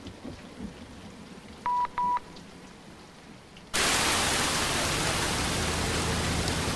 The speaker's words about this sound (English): Headlights blaze through the teeming rain.